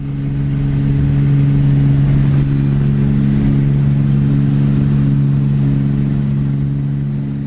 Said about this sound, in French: le bus part. Je roule paisiblement